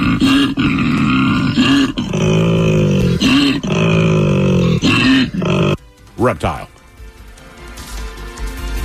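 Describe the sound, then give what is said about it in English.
A koala's mating bellow: a loud, deep, rasping series of snore-like grunts pulsing for several seconds, ending in a brief wavering squeal before fading to quiet. “It is a mammal. Yet again, we go down under. That's the old koala.”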